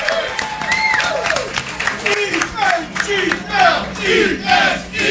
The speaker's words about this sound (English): Everybody give them a huge round of applause.